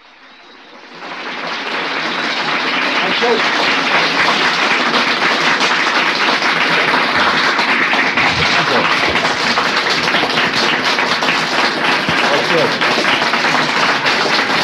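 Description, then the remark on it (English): A large audience at an L. Ron Hubbard lecture on 6 August 1958 breaks into applause that swells within the first couple of seconds, then holds as a dense, steady roar of clapping for the rest of the stretch without fading. “I'm sure that would have been a rising ovation, except for the fact that these chairs would have all fallen over.”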